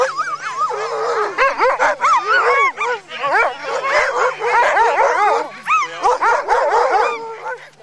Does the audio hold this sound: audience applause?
no